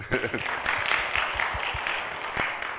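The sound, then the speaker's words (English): A church audience breaks into a round of applause for a worship musician, a dense, steady patter of many hands clapping at an even loudness for a few seconds, with a few faint voices mixed in. “Round of applause.”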